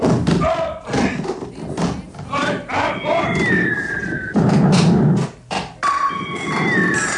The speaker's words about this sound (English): That was weird. You could hear when he hit the button. Sounds like there were three explosions.